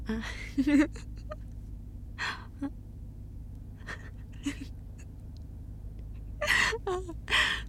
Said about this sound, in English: The gasps are... They're really good.